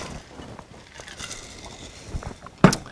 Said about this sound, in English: My throat's drying out, so I'm going to drink again.